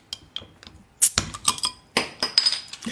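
Glasses clinking together in a toast with beer and soft drinks, a series of sharp clinks with bright ringing tones, some overlapping, with a couple of softer taps before them and no voices.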